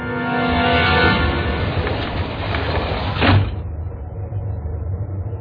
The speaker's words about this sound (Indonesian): Namun, tiba-tiba saja, pandanganku teralihkan dengan sebuah pintu besi di sebelah kiri yang terbuka.